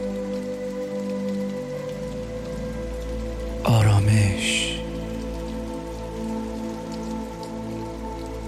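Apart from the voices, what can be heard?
light drizzling rain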